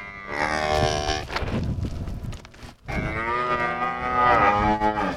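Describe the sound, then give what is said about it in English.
Cattle on a 550-head cattle operation in central Missouri moo loudly in two long, harmonic calls, the first lasting about a second and a half before a brief pause, the second stretching out over the final seconds with a wavering, bellowing tone. “Right now, he's tending the newborn calves.”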